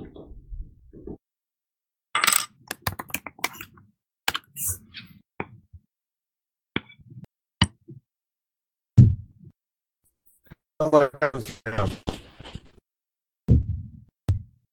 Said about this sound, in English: Fireworks are starting here.